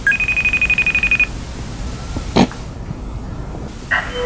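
A phone rings with a rapid electronic trill for about a second as a call is placed to a vice president, then goes quiet apart from a sharp click and a short beeping tone near the end. No one speaks.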